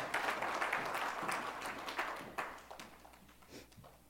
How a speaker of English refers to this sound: You can clap. You can give the Lord a hand.